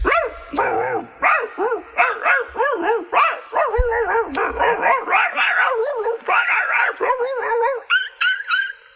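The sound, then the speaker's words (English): Several dogs bark, yip and whine at once in a frantic, overlapping dog fight, ganging up on a dog named Ralph, loud, with the noise carrying on without a break for about nine seconds. “So, anyway, these dogs ganged up on Ralph, and there was a dog fight, and it went something like this.”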